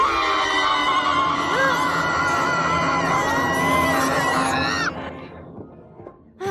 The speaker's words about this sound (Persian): چرا این همش داره جیغ میزنه؟ اینا در واقع نیزه ای سید نهنگن، فکر میکنه میخواییم شکارش کنیم، واسه همین خیلی وحشت کرده.